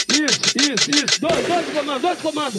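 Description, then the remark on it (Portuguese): Five punchy gunshot-style blasts fire in a quick, even rhythm, loud, with a shouted, voiced edge to each, before a busy music beat takes over. “Alguém pode dar dois tiros, dois de nós comando.”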